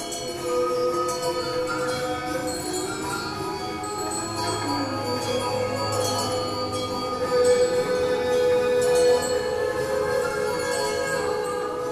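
Alpine folk music with ringing bells, yodeling voices, strings and hammered dulcimer, played at a festival of new approaches to traditional Alpine music in Altdorf, blends into a dense, sustained texture that plays steadily at moderate volume throughout, with no talking.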